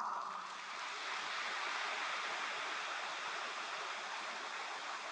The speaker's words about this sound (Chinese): 这八个字明显感觉鼓掌声音不响，因为没听懂。